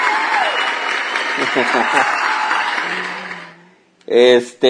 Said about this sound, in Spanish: Aplausos a Richard Álvarez por supuesto.